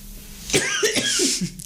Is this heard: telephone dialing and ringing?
no